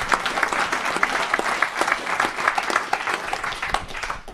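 A crowd applauds steadily, many hands clapping in a dense, continuous patter with sharp individual claps standing out, holding at a fairly even loudness throughout without any voices.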